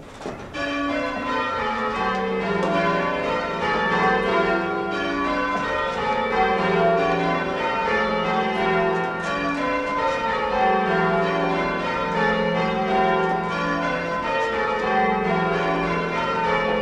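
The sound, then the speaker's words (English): Church bells ring in a steady repeating sequence, each strike overlapping the ringing tones of the last, forming a dense, continuous peal that stays loud throughout with no voices. “But over, being small, I suppose I was chosen to ring the treble, and I rang that bell.”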